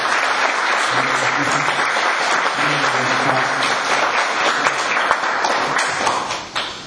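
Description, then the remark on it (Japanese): Sustained audience applause given once more in thanks, a dense, steady wash of many hands clapping at full volume for about seven seconds, with faint murmuring voices underneath before it tapers at the end. “皆様もう一度盛大な拍手を感謝に。”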